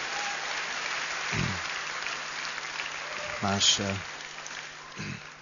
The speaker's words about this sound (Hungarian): És talán csak adhatnánk még egy nagy tapsot nekik, ennyire nagyszerű volt, köszönjük.